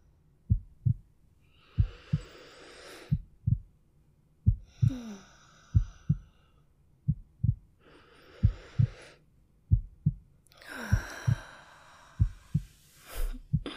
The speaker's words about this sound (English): Go ahead and put your head on my chest, okay? Yeah, that's it. Just listen to my heartbeat.